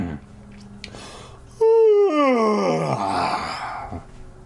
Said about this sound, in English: As soon as I felt calmer, I realized how tired I was. The sleeplessness swept over me like a heavy blanket. I yawned loudly.